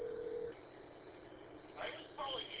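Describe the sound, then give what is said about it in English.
A VoIP phone line gives a brief steady tone, then falls quiet before short bursts of dialing tones chirp through, thin and narrow-band as if heard over a telephone connection. “I'm going to have to call Fred on my VoIP line here”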